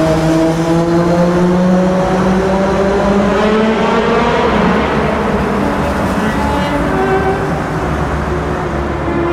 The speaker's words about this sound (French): Écoutez cette moto qui passe.